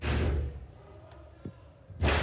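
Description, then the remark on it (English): Two heavy, booming blows by intruders on a door, about two seconds apart, with muffled, echoing background noise in between, recorded on a staffer's phone from the other side of the door. “During which time they listened to the invaders banging on that door, as you can hear on a recording from one of the staffers' phones.”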